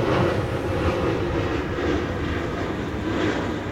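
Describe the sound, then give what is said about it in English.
A steady, loud roar of a jet airplane passing overhead, one of many planes flying over nonstop, a broad rumbling drone that holds constant throughout with no voices. “There's planes going, like, nonstop.”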